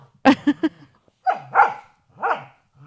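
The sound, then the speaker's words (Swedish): Dogs playing: a quick run of three sharp barks, then several drawn-out, wavering yelps and whines as they roughhouse, fairly loud with short pauses between. “Det är hundarna som busar.”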